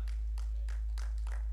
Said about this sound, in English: Someone else join this guy and clap.